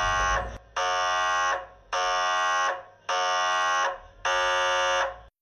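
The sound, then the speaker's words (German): An MRI scanner buzzes loudly in four long, evenly spaced bursts, each a harsh, steady, strongly harmonic tone with brief pauses between. No one speaks. “Also, es beginnt gleich zu klopfen. Bitte nicht bewegen, gut so bleiben.”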